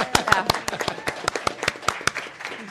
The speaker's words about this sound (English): Killian, yeah, you can applaud. That was worth it, yeah.